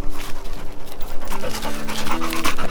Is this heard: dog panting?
yes